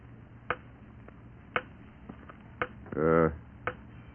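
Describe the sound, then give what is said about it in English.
A grandfather clock ticks steadily, with sharp, fairly loud clicks about once per second and softer ticks in between. A short burst of someone's voice breaks in near the end. “All grandfather clocks tick like that.”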